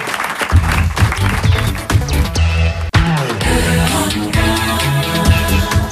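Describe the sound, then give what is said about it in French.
An audience applauds steadily over a loud, upbeat music bed with a thumping bass line, the clapping and music running together for about six seconds with one brief drop midway. “Eh bien, merci, on applaudit.”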